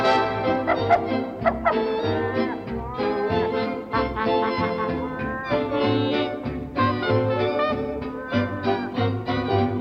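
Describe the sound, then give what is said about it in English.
A dog on the road with some sheep barks repeatedly in quick, uneven bursts, mixed in with a busy band playing steadily underneath, the barks and music both fairly loud. “Then the bark of a dog on the road with some sheep that is followed by cars.”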